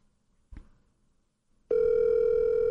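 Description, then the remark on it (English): A cell phone call tone from a live on-air call to George, the phone held up to the microphone: a soft bump, then a loud, steady electronic hum that starts abruptly and drones on without a break. No voices. “Yeah, we're calling George live.”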